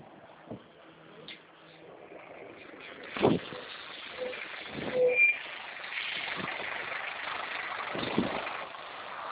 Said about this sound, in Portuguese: Só um minutinho, tá? Eu só vou subir no ônibus, mas eu continuo falando, tá?